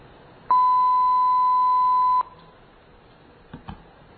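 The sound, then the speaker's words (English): A telephone network signaling tone from a simulation calling real numbers on the public telephone network over voice over IP through a modified Asterisk PBX: one steady, pure electronic beep holds for almost two seconds and cuts off sharply, followed by a couple of soft clicks on a quiet line. “they realized that the tones themselves, the frequencies,”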